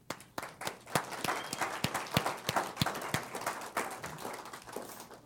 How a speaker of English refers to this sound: We had some very beautiful specials. And in the Philippines, they acknowledge those specials by clapping. And I want to clap for those specials that we heard tonight. Please.